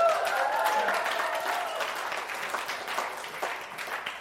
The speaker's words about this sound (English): If you're clapping for me, she deserves a medal.